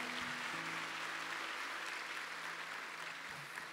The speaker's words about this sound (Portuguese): Amém? Dá mais uma salva de palmas ao Senhor.